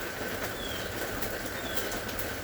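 Two brief, faint, high bird whistles peek through a steady, dense hiss of rain. The calls are thin and short, roughly a second apart, and no one speaks.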